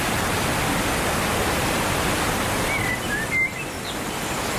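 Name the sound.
flowing water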